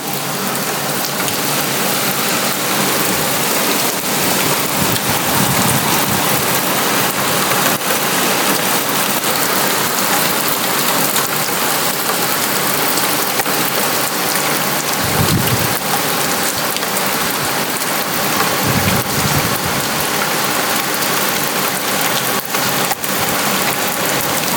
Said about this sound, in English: It is absolutely torrential rain, and it's been like that since last night. It hasn't stopped.